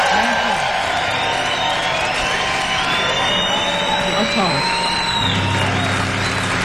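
audience applause and cheering

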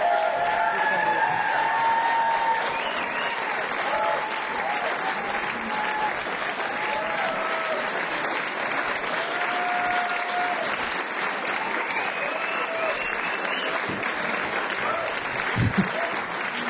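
audience applause

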